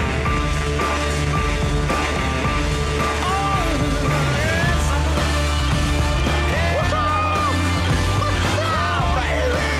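A loud, dense rock song plays continuously as a film's opening, with driving drums, thick guitars and bass, and sliding vocal-like melodic lines weaving through the full, steady mix.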